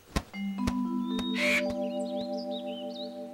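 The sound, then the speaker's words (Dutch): An eagle's high, wavering cries repeat several times as it flies off with a steak, over a steady sustained tone, after a few sharp knocks and a brief rushing whoosh. No one speaks. “En de adelaar vliegt er vandoor met de biefstuk.”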